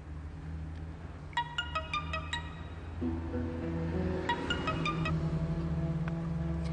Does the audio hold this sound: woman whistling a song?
no